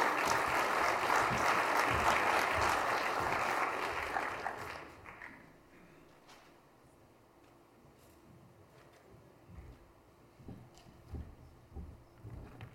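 A crowd claps loudly and steadily for about five seconds for a student who is about to speak, then the applause quickly dies away, leaving a few scattered claps and faint shuffling.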